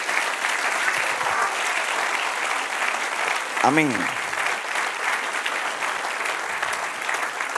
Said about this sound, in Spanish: Amén, mis amados. Denle un aplauso al Señor entonces.